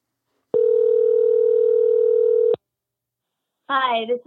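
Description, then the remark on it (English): A steady, unbroken telephone dial tone hums at a single mid pitch for about two seconds as a call is placed to a guest on the Dear Sugars show. It cuts off abruptly, and after a short silence a voice starts talking. “Let's give her a call.”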